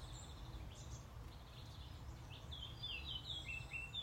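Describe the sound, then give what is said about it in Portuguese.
Birds chirp faintly, with scattered high tweets that grow busier toward the end, over a steady low outdoor rumble. No one is speaking. “vejam lá, vamos ver se agora ouvem os pássaros.”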